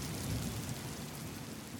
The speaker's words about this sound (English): It's raining. It's a big rainstorm, and it's just about to stop.